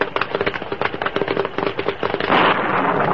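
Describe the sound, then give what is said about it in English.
A lightning bolt strikes the top of a pine tree near the bank of Boulder Creek during a storm, splitting the trunk: a rapid, loud barrage of sharp crackles and snaps for about two seconds, then a dense roaring crash of noise that holds steady to the end. “Suddenly, a bolt of lightning hit the top of a pine tree near the creek's bank.”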